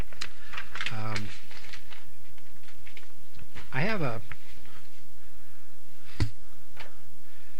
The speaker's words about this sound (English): As I shuffle with my papers here, I hope I have this stuff with me. I think I do.